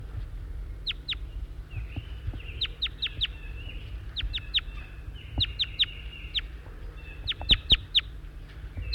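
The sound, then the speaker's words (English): Several birds chitter together in quick clusters of sharp, high chirps that start and stop repeatedly, over a steady low background hum with no voices. “Chitter now as the birds are together.”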